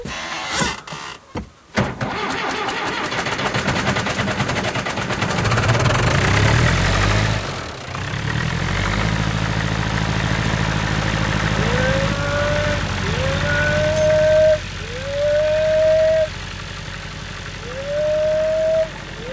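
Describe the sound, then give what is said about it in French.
A tractor engine runs steadily with a low, droning hum; the tractor is being fetched on a farm to hitch a rear fork for feeding cows. In the second half a series of drawn-out cow moos rise over it at regular intervals. “Je vais chercher un tracteur pour atteler la fourche arrière, pour pouvoir donner à manger aux vaches.”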